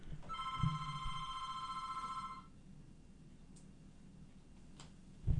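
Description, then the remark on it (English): A telephone rings with a bright, steady electronic trill for about two seconds, then cuts off, leaving quiet room tone with a couple of faint clicks. “Oh, and I think that might be our call-in guest. I'm going to take this.”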